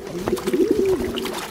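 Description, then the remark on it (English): A pigeon coos softly, a low warbling purr that swells and wavers for about a second, as pigeons bathe in a stream, with faint splashing water in the background. “As the pigeons bathe, oil from their plumage flows downstream and is detected.”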